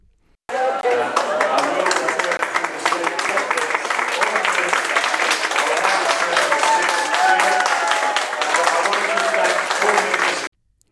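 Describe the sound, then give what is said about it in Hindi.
Sustained applause fills the New South Wales state parliament chamber in Australia as the final hurdle to removing abortion from the Crimes Act is cleared. For about ten seconds there is a dense, steady roar of many hands clapping at even loudness, with faint voices and cheers woven through, before it stops abruptly. “राज्य की संसद में जैसे ही क्राइम एक्ट से एबॉर्शन को हटाने की अंतिम बाधा दूर हुई तो देर तक तालियों की गड़गड़ाहट सुनाई देती रही।”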